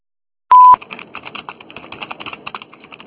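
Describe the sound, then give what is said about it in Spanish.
A single loud voicemail beep tone, a steady pitch lasting about a quarter second, followed right away by a quick, uneven patter of keyboard typing clicks. “Después del tono, ¿Aló? grabe su mensaje.”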